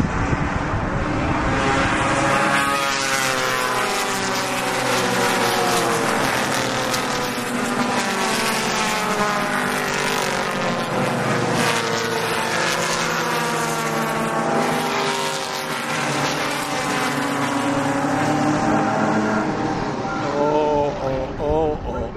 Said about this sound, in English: Here are those two front cars. The Mazda of Ouellette right up alongside is Goran Nyberg. And there's the green flag as they hit the line. And work out in turn number one. Cars still coming off the turn.